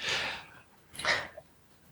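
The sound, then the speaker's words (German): Someone takes a breath: two short, airy intakes about a second apart, the second slightly sharper, with no talking around them. “Ich habe einen Atmen gehört, ich wollte jetzt nicht euch in den Tod treten.”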